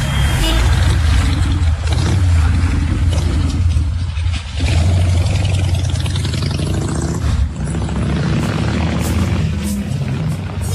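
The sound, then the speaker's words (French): A steady low engine rumble from idling taxis fills the scene, loud and continuous, with faint traffic noise and voices mixed in. “Ah, c'est les taxis. C'est les taxis.”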